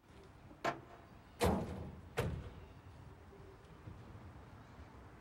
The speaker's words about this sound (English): Joel Barish wakes up to the sound of a car door closing and an engine being started.